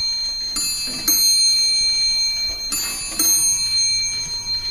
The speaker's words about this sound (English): Le Castel wall clocks chime the hour. These pendulum clocks are native to Neuchâtel and are manufactured in the time-honored way.